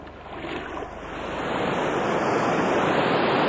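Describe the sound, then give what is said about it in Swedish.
Floodwater from the swollen Västerdalälven river washes and laps in a steady, rushing churn that grows gradually louder as the river approaches a house, after 155 mm of rain in two days in May, with a faint wind-like hiss over it and no voices. “Nu inspekterar han sin tomt från båten allt medan älven hotfullt närmar sig huset.”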